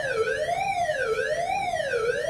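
A siren for a routine tornado drill at a school, at the end of the day, wails continuously, its pitch rising and falling in smooth cycles roughly every second, loud and steady with no voices over it.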